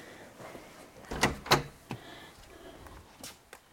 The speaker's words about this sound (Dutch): Weet je waar ik aan denk als ik die deur open doe?